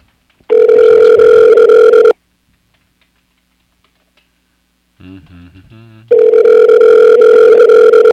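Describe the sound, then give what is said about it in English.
A phone's ringback tone, played as dialing music while placing a call, sounds in two loud, steady bursts of about two seconds each, separated by silence and a brief softer snatch of music-like tones. “It's dialing music.”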